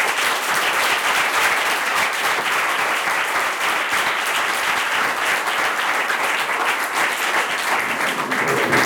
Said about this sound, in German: mit einem herzlichen Applaus zu begrüßen.